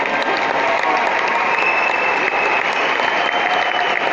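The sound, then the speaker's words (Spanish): Sustained applause from an audience, a dense, steady wash of clapping that stays loud and even throughout, with no speech over it. “Desde aquí, con mi corazón, las quiero saludar y las aplaudo.”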